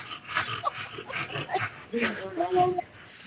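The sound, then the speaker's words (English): A dog yelps and whines in a run of short, excited bursts, with high, wavering whimpers rising toward the end of the few seconds, fairly loud and muffled in tone. “that dog is out of control.”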